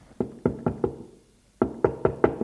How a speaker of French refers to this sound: Puis, elle a frappé à sa porte.